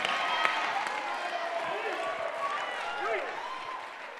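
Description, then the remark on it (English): An audience claps hands in a dense, steady patter of many hands, with raised voices and shouts mixed into the noise, easing off slightly near the end. “So you can clap your hands in here all you want to.”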